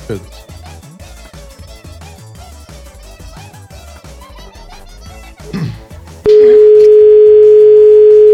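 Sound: telephone dial tone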